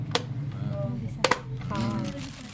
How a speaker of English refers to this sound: Would you be so kind as to fill this 1-litre bucket up with water? So everything goes into the bucket and then we put the lid on top.